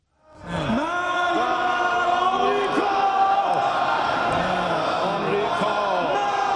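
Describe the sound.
Iranian lawmakers at the nation's parliament chant "Death to America" loudly in unison while burning a U.S. flag, men's voices rising and falling in a steady repeated rhythm, sustained after a brief silent start.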